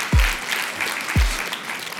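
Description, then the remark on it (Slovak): An audience applauds as a guest is introduced, in a steady, dense wash of clapping, with two deep low thumps landing about a second apart beneath it. “A som zvedala, či ten potlesk bude teraz väčší alebo menší, hej?”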